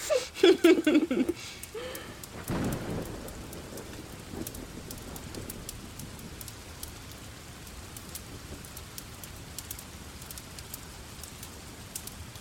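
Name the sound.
heavy rain falling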